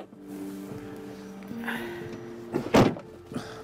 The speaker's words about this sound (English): gets in after her and shuts the door behind himself.